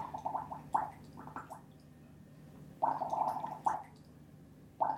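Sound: blowing bubbles in water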